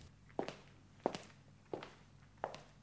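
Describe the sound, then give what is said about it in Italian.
Four sharp heel clicks strike at a slow, steady pace, each with a short hard attack and a brief echo: the footsteps of someone in heels walking behind the listener. “E allora, all'improvviso, udite un passo, un battere di tacchi che vi segue.”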